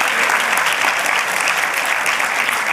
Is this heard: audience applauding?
yes